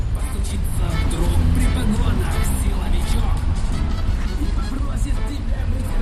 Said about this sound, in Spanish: A lo lejos he visto que había unos banderines muy grandes ondeando, junto a ellos un grupo pequeño de personas y dando vueltas a la plaza un coche emitiendo mensajes propagandísticos.